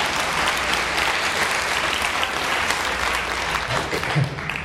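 A crowd claps steadily, a dense wash of many hands holding a fairly even level throughout, loud and sustained with no voices standing out, clapping for the speaker who speaks every week.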